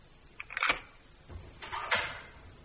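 A key rattles and clicks in the lock of a cellar door, followed by a dull thud and the scraping creak of the heavy door being pulled open, with no voices.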